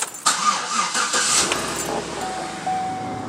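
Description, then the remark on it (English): A car engine cranks and turns over at 5:20 a.m. before dawn, as a worker is driven to the Port of Brownsville, catching with a rising whir before settling into a steady idle hum, with no one talking. “About to get in the car.”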